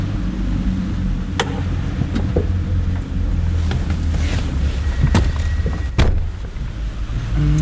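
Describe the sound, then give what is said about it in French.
A Mobility car's engine hums with a steady low rumble as the vehicle pulls away from beneath Cornavin station, punctuated by a few sharp clicks and knocks. No one speaks. “Alors, on a trouvé la voiture Mobility ici, sous la gare de Cornavin.”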